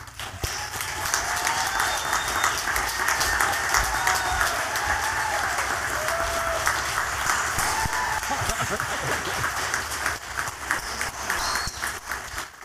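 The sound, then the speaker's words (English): Sustained applause from an audience as this year's award winners are brought out, a dense, steady wash of many hands clapping for about twelve seconds, with a few faint cheers and whoops rising above it before it begins to thin out. “And now before we get them on the microphone, thank you for your applause.”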